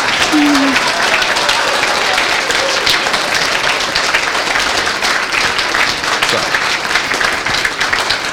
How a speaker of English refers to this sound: I think we have to give him a big applause to be the chairman of the next one.